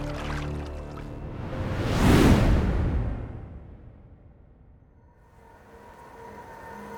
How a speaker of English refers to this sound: He did, as the magic expired, that last burst of flight carrying them further out over the water to splash down hard into the cold lake.